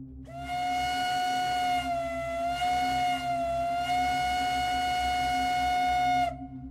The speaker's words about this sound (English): For instance, the following is the standard American train whistle from the 1840s and 50s. Now, I've turned all these samples down considerably to save a few eardrums.